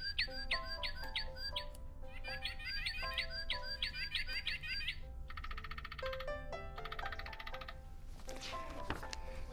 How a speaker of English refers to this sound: As we arrived at the edge of the forest, we were greeted by the warning sound of a screaming blue jay. I heard other bird sounds in the background.